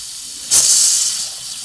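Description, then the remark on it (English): A bathroom sink faucet in a flophouse room is turned on and water rushes out, with a little air in the pipes, in a sudden, loud, hissy spray that holds steady and eases slightly toward the end. No one speaks. “And I just made an interesting discovery when I turned the water on in the bathroom sink.”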